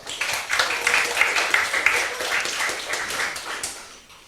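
The audience of a talk titled Gigafunk, Freifunk ins Gigabit-Zeitalter applauds steadily for a few seconds to welcome the speaker, a dense wash of many hands clapping at once that holds at a fairly even level before tapering off at the end. Nobody speaks.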